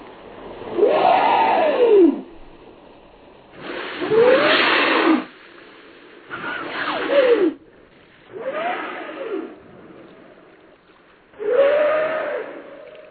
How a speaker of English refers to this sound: Well, here's a greatest sound. This one is the humpback.